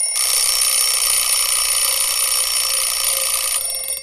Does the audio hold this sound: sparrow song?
no